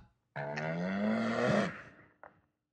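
animal, cows mooing

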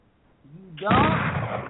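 sound effect, shotgun blast

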